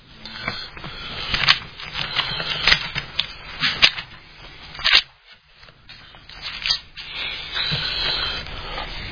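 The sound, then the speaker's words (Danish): Thin Bible pages being flipped and leafed through to Romans chapter 3, a steady run of soft rustles and crisp flicks with a brief pause partway, with no one speaking. “Prøv at bladre sammen med mig om til Romerbrevet kapitel 3.”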